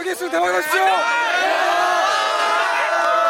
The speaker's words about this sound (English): Shouting good luck on your exam, sophomores and juniors bring banners to cheer on and encourage the seniors taking the exam. These chants have become a tradition.